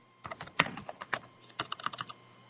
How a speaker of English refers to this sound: Who's typing? Can't say? You don't want to say who's typing?